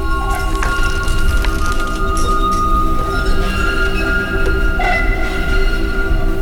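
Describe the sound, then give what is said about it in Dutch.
An old tram gets under way with a loud, steady motor rumble and whine, punctuated by metallic clinks of its foot bell, rung by the driver in answer to a signal, and a heavy clack as the driver throws the speed controller, with no talking. “De onzichtbare wagenvoerder beantwoordde het signaal met zijn voetbel, haalde met een zware klak zijn snelheidsregelaar om en de wagen reed verder.”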